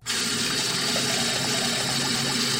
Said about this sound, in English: Have you a wash bowl here in your office? Oh, yes, right here in this closet. Splendid. Now, can we just run a bowl of water? I suppose so.